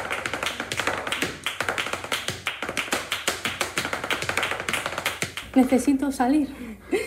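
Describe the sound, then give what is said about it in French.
Rapid, crisp flamenco footwork taps in a dense, driving rhythm, loud for about five seconds, followed by a voice speaking at the end; an 18-year-old dancer dancing at home in a cramped apartment in Barcelona. “mais depuis 7 mois, elle danse chez elle, dans l'appartement exigu”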